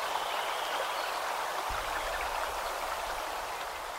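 A steady, even wash of flowing creek water recorded in 1989, a broad hiss with no voices, birds or insects audible over it.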